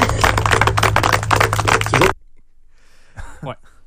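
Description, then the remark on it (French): A dense burst of hand clapping from a group lasts about two seconds, then cuts off abruptly into near silence before a voice briefly starts speaking. “Donc, honnêtement, moi, pour l'instant, je suis satisfaite du travail que j'ai fait, puis je pense que mes collègues le sont aussi, alors par main d'applaudissements.”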